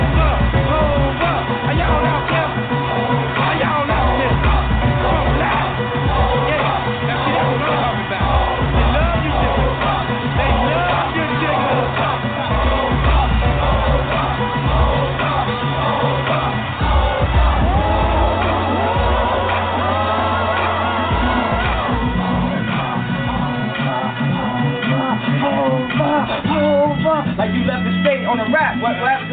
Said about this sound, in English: Say ho, come on, say ho.